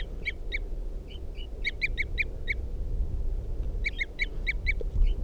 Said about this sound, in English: Toops of the wild bird. And that's 305 who's tooping there. 305. And this is a wild bird.